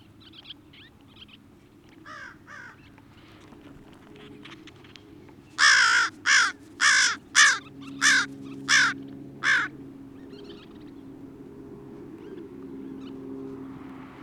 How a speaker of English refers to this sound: Brief vocalization from American Crow recorded May 23rd at 10:4600 hours in the Colonel Allensworth State Historical Park. Bird was vocalizing on the wing, being chased by kingbirds, probably about 30 meters away under clear skies